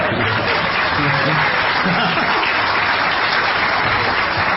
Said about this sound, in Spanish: Un solo aplauso.